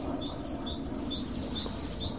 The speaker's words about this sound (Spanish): Se oyen verderones por ahí, ¿no? Y verdecillos, yo creo. Y aviones. Y aviones también.